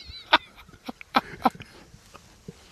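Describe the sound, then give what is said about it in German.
Three short, sharp dog barks come at uneven intervals, somewhat muffled and moderately loud, with faint scattered background noise and a thin high whine at the start. “Jetzt hast du einen Hund da drin?”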